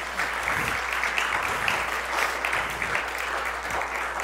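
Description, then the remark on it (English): An audience in a church sanctuary applauds the speaker's mother steadily, many hands clapping in a dense, even wash of sound that holds at a constant level for a few seconds with no talking over it. “Yes, let's at least applaud for her, okay?”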